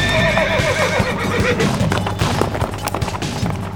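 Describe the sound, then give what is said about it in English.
A black horse ridden by a knight in black armor during a tournament fight gives a loud whinny that wavers and trails off, with a steady rumble of hooves and movement continuing underneath. “This knight is dressed in black armor and rides a black horse.”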